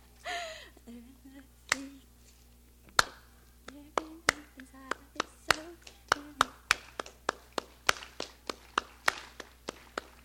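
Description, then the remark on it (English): An audience in Carrollton claps hands, trying to get a beat: sharp claps start sparse and uneven, then settle into a steady, quickening beat of crisp slaps, with a few voices murmuring faintly at the start. “Do you feel like clapping your hands?”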